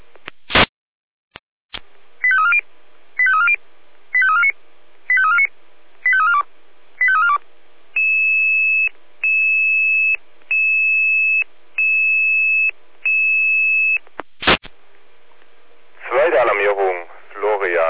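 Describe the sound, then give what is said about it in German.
A fire brigade alerting sequence, the second alert for Florian Kahla to a B2 fire on Ernst-Themann-Straße from a triggered home smoke detector, at 1:08: seven short warbling two-tone chirps in steady rhythm, then a row of six flat, high sustained beeps, a sharp click, and a burst of radio static. “Zweite Alarmierung, Florian Kahla, Ernst-Themann-Straße 36, Brand B2, ausgelöster Heimrauchmelder.”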